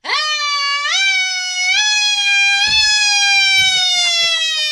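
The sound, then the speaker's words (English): A voice imitates a siren with a loud, sustained wail that rises in steps and then holds steady for several seconds, with faint rustling and knocks in the background. “Come on, give me the siren. Rehearse the siren.”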